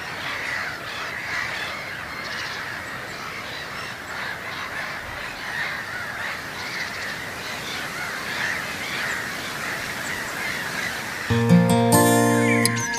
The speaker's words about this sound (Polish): Teraz wiatr ucichł na moment, ja tylko pozwolę Państwu posłuchać tych mew.